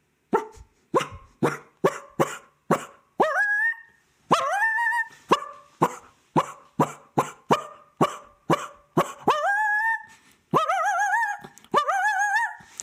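Coyotes bark at a wolf that has shown up, in a rapid, agitated series of sharp barks, broken up by high, wavering yips and whining cries that stretch out between them. No one speaks.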